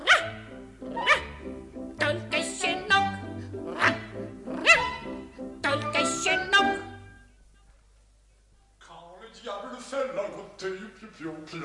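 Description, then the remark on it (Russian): Short, high yapping barks of Pif the puppy, roughly one per second, ring out loudly over a bouncy musical accompaniment, then stop, and a voice starts talking. “я не дорос до взрослой собаки.”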